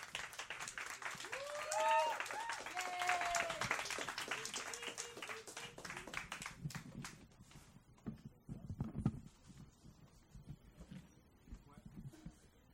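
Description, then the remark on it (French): A crowd applauds loudly and steadily for François-Luc Saint-Gelais as he is introduced, with scattered cheers and whoops rising over the clapping early on before it thins out toward the end. “Et là, vous allez l'applaudir.”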